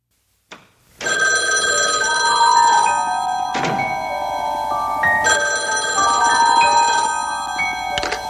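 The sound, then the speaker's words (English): After a quick click, a telephone bell rings loudly and continuously, its bright metallic clang shifting slightly in tone, with no voices. It is from the 1971 crime thriller Klute. “Two girls lie dead, and somebody is on the other end of the phone.”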